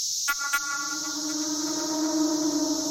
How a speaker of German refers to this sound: Dieser Zikadensound, das ist eine wundervolle Erfahrung. Er zeigt mir, dass es dem Wald gut geht. Da, wo Zikaden sind, da geht es auch den Bäumen gut.